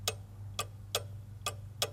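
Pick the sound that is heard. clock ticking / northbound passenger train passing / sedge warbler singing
clock ticking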